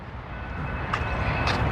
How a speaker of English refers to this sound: And there's the train. 10 o'clock, y'all. See, 10 o'clock is when the train comes. We're going to see it. Sometimes it'll take a long time to get here. 10 o'clock, 10:02. So that's about what time it come by every time.